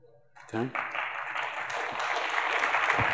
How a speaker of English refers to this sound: Okay. You got to stop applauding at things like that, because this is a very unique group of people, okay?